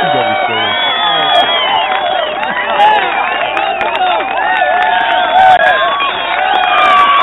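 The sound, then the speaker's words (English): An indoor crowd cheers and chatters at once, many overlapping voices and occasional whoops forming a steady, fairly muted roar that holds for several seconds. “That's the inside crowd. A little more subdued.”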